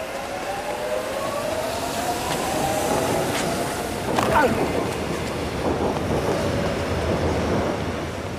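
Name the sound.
subway train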